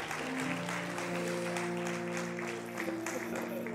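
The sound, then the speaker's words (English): An audience claps steadily in praise of Jesus, a dense, continuous wash of many hands, with sustained organ or keyboard tones ringing underneath. “Come on, give Jesus another hand clap for praise.”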